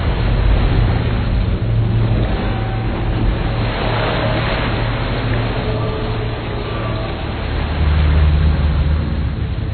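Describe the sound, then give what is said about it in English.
A boat rumbles steadily through water, its low engine drone constant beneath broad washing and splashing noise, fairly loud throughout with no voices. “Our transportation is forthcoming. A boat? It travels on water, if that's what you mean.”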